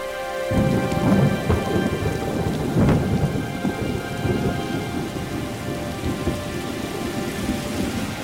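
heavy rain with thunder

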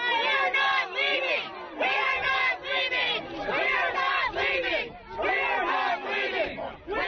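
protest crowd chanting

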